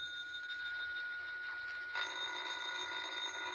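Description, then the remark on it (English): A telephone bell rings in a continuous, shrill metallic trill that holds steady throughout, growing slightly brighter and louder partway through, with no voices. “Well, ain't you gonna answer the phone?”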